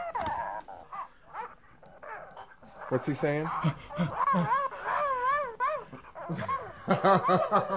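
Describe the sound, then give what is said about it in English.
A novelty humping toy dog, given as a Christmas gift, lets out a run of high, wavering electronic yips and whines, fairly loud, with people talking and laughing over and around it. “It's a dog that humps.”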